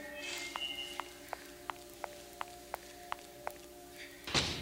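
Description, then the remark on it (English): A single loud thud of a door slamming shut in a house lands at the very end, following a steady run of soft, evenly spaced ticks. “Who slammed the door?”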